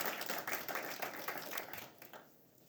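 A short burst of audience applause at a church service, welcoming a guest brother: dense overlapping hand claps at a steady moderate loudness that taper off toward the end, with no voices over them.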